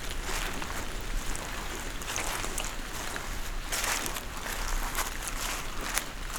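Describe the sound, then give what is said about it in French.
Water droplets drip down trunks and branches in a beech forest after the rain has stopped, around half past midnight: scattered soft taps and patters over a steady, hissing wash of damp background noise, with no voices. “Vous entendez, alors que la pluie a cessé, les gouttelettes d'eau qui dégoulinent le long des troncs et des branches de la hêtraie.”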